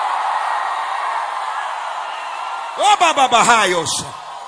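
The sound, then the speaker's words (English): An audience in a tent and building roars in a steady wash of crowd noise, then loud, wavering shouts and screams burst out for over a second before dropping back into the din. “I need 60 people in the tent, outside, in the building, to scream like you lost your mind.”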